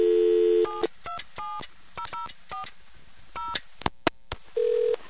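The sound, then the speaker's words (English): A phone line hums with a steady tone, then a quick series of touch-tone beeps sounds in short pairs as a prefix plus 0040 is dialed on a Nevada Bell payphone, followed by a few sharp clicks and a brief closing tone, clear. “In California, the Proctor test set, at least in the COs where I was on the prefix that the payphone was on, plus 0040, so let's see what happens here.”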